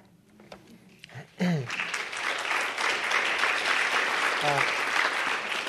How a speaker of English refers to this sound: Don't clap for all of them, they get worse.